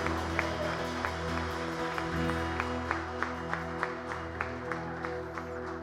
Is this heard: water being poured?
no